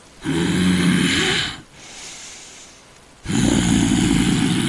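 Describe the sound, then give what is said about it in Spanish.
A voice imitates a dragon's heavy, rasping breathing, two long loud exhales separated by a quieter wheezy intake, with no talking. “La respiración aquí en la nuca.”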